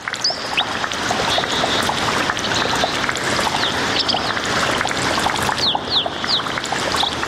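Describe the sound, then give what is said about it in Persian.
Spring water at a gudar (spring) flows steadily, a continuous rushing wash with no pauses, while a few birds chirp briefly over it. No one speaks. “در این برنامه با شما یک جا به طرف گودر یا چشم ساران می رویم.”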